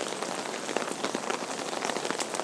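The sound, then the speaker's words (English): Heavy rain drums steadily on an umbrella overhead as someone walks to a bus stop, a dense, unbroken patter of countless drops with small crackling taps scattered through it. No voices are heard. “As you can hear, it's raining. It's tipping it down.”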